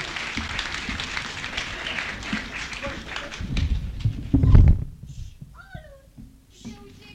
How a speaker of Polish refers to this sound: Proszę, zuchy harcerzy. Proszę, kurtyna w górę, brawa dla harcerzy.